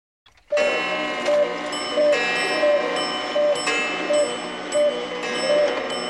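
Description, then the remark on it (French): A dense clamor of many clocks starts abruptly as they strike 10 p.m., steady ticking pulsing roughly twice a second beneath layered ringing chimes and bell tones that sustain loudly throughout. “les horloges du Dr Emmett Brown vont bientôt retentir”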